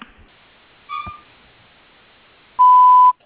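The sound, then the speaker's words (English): A single loud, steady electronic beep lasting about half a second, the kind of tone that signals the start of a voicemail recording, preceded by a brief faint murmur and quiet line hiss. “At the sound of the beep, please record your message.”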